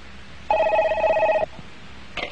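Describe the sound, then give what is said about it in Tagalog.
A telephone rings with one loud, trilling electronic burst lasting about a second, then falls quiet before a brief fragment of the next ring begins. No voices are heard. “Aga na telepono.”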